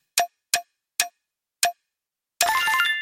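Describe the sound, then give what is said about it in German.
A prize wheel clicks four times, the ticks spreading farther apart as it slows, then a bright ringing chime plays as it stops. No one speaks. “Dann drehen wir am Rad.”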